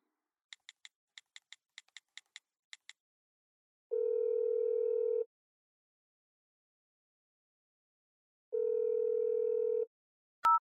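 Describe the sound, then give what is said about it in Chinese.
A quick string of short keypad beeps is followed by two long, steady ringback tones separated by a pause, then a brief electronic blip as the call connects, while placing a return call by phone. No one speaks. “啊，出事情了，让我速回电话。”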